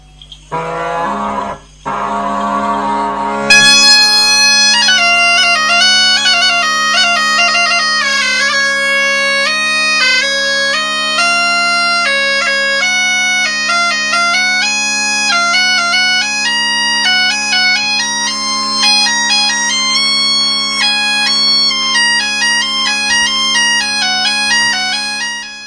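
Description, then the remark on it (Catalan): Mallorcan bagpipes (xeremies) play a lively, reedy dawn tune, the Alborada, over a steady droning bass, the melody ornamented and continuous after a brief tuning swell at the start; no one speaks. “Sí, aquí ell està sonant l'Alborada.”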